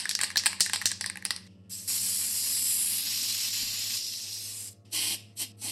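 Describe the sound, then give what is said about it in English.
A spray paint can with a wide fat-cap nozzle rattles with a quick series of clicks, then releases a long, steady hiss as it sprays teal paint over black on a wall, followed by a few short bursts. “The wide nozzle of the cap deposited gentle washes of teal over the black.”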